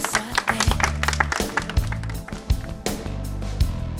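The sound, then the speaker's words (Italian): Audience applause for the godmothers (madrine) of an event: a dense, steady wash of many hands clapping, with sharper claps standing out now and then, over a low, sustained hum, lasting the whole stretch without talk. “Brave, un applauso alle madrine.”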